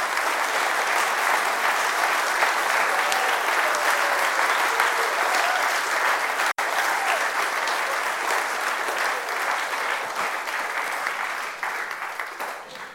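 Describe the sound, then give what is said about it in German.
A large audience claps loudly and steadily for about thirteen seconds in thanks to the helpers of church youth and confirmation activities, a dense, sustained wash of applause that only begins to thin out near the end. No one speaks over it. “Und ich denke, da können wir wirklich mal ganz, ganz kräftig klatschen für alle.”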